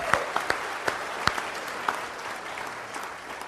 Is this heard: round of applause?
yes